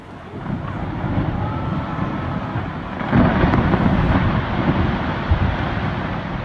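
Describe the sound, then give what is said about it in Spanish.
A low, continuous rumble of distant thunder echoes along the route through Southern Patagonia, swelling a little louder partway through before settling back into a steady, far-off roar. “Al iniciar la aventura desde el norte, el lejano eco de un trueno se vuelve una referencia en la ruta de la Patagonia Austral, un punto hacia el que dirigirse que justifica el trayecto a través de escenarios naturales dispares.”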